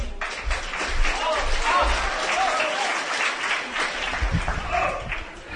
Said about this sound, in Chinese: 谢谢，感谢您的掌声鼓励。